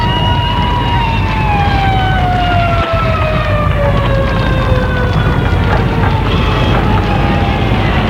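An emergency vehicle siren wails loudly for several seconds, its tone slowly sliding downward in pitch as it passes, over a dense, rumbling wash of traffic noise.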